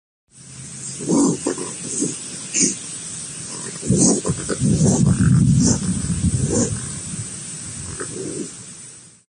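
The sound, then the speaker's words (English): A raccoon growls in low, rumbling bursts, a few short snarls early on, then a longer, louder sustained growl before tapering into quieter rumbles over a hissy background. “We'll play a growl right now.”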